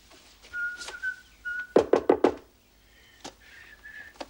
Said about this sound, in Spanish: Con el paquete en la mano, David llama a la puerta de Nadia.